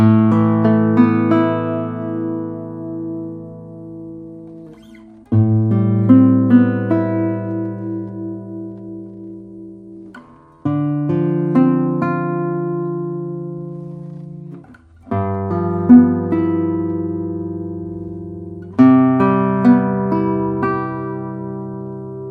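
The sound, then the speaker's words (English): A light, double top acoustic guitar with a cedar top, Indian rosewood back and sides and a shorter 64 cm scale plays five full, resonant chords, one every four to five seconds, each struck firmly and left to ring out with long, slowly fading sustain. No one speaks. “We have an arm set here, we have cedar top, and we have Indian rosewood back and sides. And this guitar has a shorter scale.”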